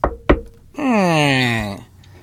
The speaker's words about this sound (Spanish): En un pueblecito de Chiapas, tocan a la puerta.